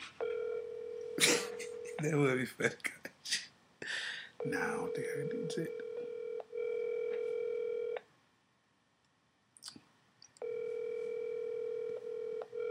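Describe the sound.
A phone ringback tone plays over a speakerphone in long steady bursts with pauses between, while people talk and laugh in the gaps and over the first ring.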